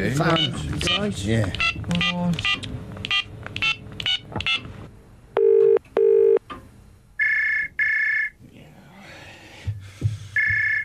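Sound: telephone number being dialed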